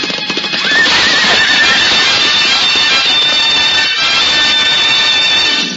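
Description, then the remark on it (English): Horses neigh and whinny loudly over a dense, continuous clatter of galloping hooves on turf as two jousting knights charge each other with couched lances. It is a chaotic rush of animals lasting several seconds, with no voices. “Horses recoil from the mighty shock.”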